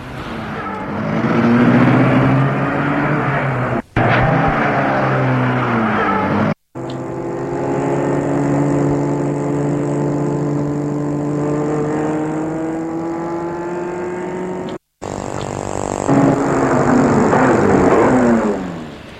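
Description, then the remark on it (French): A small Citroën 2CV car engine drones steadily as the car drives, its pitch rising and falling as it revs through gear changes, with two abrupt brief cuts along the way. No one speaks. “Ils sont tous les trois devant la deux chevaux.”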